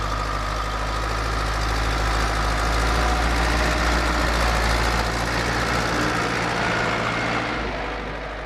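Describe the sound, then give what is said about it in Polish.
A car engine idles with a steady, low rumbling drone and a faint rattling vibration, holding an even level throughout with no one speaking, as someone gets into the car in snowy winter conditions in the countryside. “Wsiadam do samochodu i podstawowym przedmiotem, który mam w samochodzie, to tak naprawdę jest szufla.”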